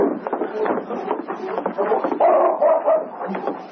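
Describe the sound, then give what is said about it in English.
King, a wet dog, barks in short, choppy bursts, then lets out a high, drawn-out whimper before a few more yips; moderately loud over a muffled, noisy background. “I hear a dog.”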